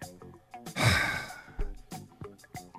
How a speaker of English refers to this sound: What's all that breathing?